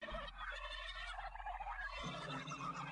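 A turkey that has got loose gobbles loudly, a rapid warbling burst of throaty calls lasting a few seconds with a low steady hum underneath, no voices present.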